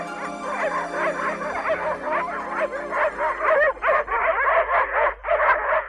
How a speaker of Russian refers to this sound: Собаки тотчас напали на ее след, подали голос и пустились вдогонку.